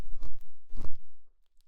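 Ear cleaning scraping: two loud, gritty crunching strokes in quick succession, each a short rough burst, followed by near silence with a faint tick at the end. No one speaks.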